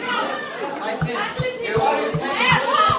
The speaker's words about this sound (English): Okay, then last bell. More than 1,000 students fill the halls, just like Adnan describes in his letter.